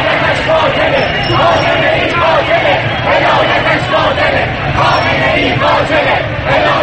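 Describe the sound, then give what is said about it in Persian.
A large crowd of protesters at the 40th-day memorial for those recently killed, at Behesht-e Zahra, chants and shouts slogans in unison demanding the Islamic Republic become an Iranian Republic, a loud, continuous roar of many voices with rhythmic surges and no pauses throughout. “خواسته اخیر خود را، یعنی تغییر جمهوری اسلامی به جمهوری ایرانی، شفاف و واضح فریاد زدند.”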